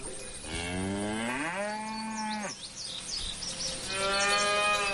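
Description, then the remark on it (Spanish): Two long, loud cow moos, the first rising and stretching for a couple of seconds, the second starting after a short pause, with faint bird chirps in the background. “La persona que me acompaña esta mañana, a esta hora, a las 11:09, de pequeño pasó días enteros con las vacas.”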